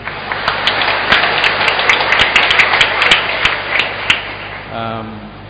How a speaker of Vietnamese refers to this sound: Chúng ta cùng chúc nhau và một tràng pháo tay.